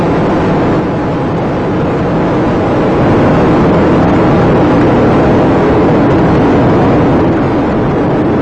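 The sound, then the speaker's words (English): A deep, powerful roar from the three main engines of the space shuttle Atlantis during ascent rumbles continuously, loud and steady with a dense, hissing wash of noise and no voices over it, as the engines are throttled down to 72% of rated thrust before maximum dynamic pressure. “And the three main engines on Atlantis have now been throttled down to 72% of rated thrust.”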